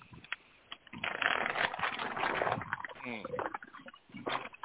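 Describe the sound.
Loud, continuous rustling of paper and a crinkling snack bag that sounds like a Frito-Lays bag, heard as background noise, dense crackly bursts lasting several seconds, with a voice briefly audible underneath.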